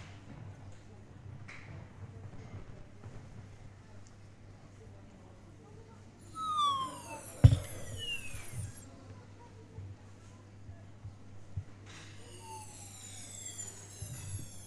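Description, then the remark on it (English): A smoothie being sucked through a straw: two bursts of squeaky, whistling slurps that slide up and down in pitch, separated by a quiet pause over a steady low hum. “Get the fantastic sound of the smoothie.”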